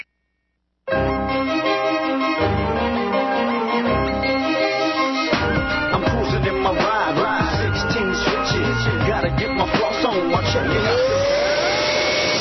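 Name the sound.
upright vacuum cleaner running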